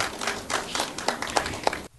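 Audience applause for an author at a round table of the 5th Salon du Livre de Blanzy, recorded on 12 October: a dense wash of many hands clapping, steady and fairly loud with a few sharper claps standing out, ending abruptly in silence.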